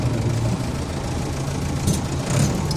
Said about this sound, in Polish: Traktor też już chyba skończył. Słyszysz, wujku? Słychać go gdzieś między budynkami. Chyba się do nas zbliża.